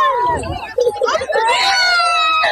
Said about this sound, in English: Bus driver one apparently didn't stop at the last 8 stops, and the student screaming in the background. We were screaming, "Stop the bus! Stop the bus! Stop the bus!"